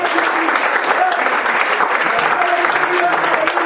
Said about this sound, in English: Does anybody believe that? Can you clap your hands and can you shout, thank you, Jesus?